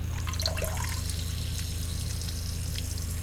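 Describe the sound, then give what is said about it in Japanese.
A simulated urination stream: a steady stream of liquid gushes and splashes without pause, fairly loud, like water pouring into water, with a low hum running underneath. “プシュッと音を立て、尿道から黄色い液体が噴出してます。”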